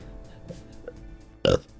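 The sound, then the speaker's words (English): A single loud, throaty burp erupts near the end after a stretch of quiet background, short with a voiced, rumbling tone, from a person who is very full after eating. “Burping because I'm so full.”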